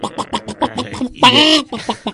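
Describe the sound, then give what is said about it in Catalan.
A voice imitates a chicken in a studio: a quick run of rhythmic, clipped clucks, then a loud drawn-out squawk, followed by a few more clucks. Fairly loud, with no other talking. “Mira, se'ns ha colat una gallina, gallina a l'estudi, a l'estudi, no?”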